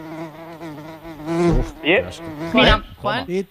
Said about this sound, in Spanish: Mosca. Sí, es una mosca.